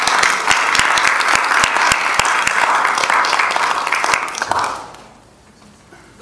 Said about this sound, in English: And she's going to be our wonderful speaker. So let us welcome her with a big clap.